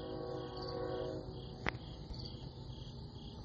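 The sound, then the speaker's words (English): A steady chorus of crickets chirping in pulsing waves, heard from a porch at Mayberry's View, over a low rumble of a train running by in the distance, with a single sharp click partway through and no voices. “You can probably hear the crickets in the background too.”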